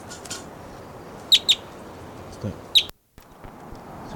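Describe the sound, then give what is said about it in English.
A wild bird perched in a tree right next to a truck calls with three sharp, high chirps: a quick pair, then a single note a moment later, over a steady outdoor hiss. “And it's just out of range for shooting, but it's vocalizing here.”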